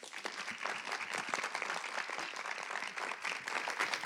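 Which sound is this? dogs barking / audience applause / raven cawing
audience applause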